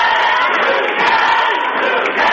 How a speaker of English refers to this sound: So I'm going to let you listen to the crowd here as they wind it down. We're under a minute.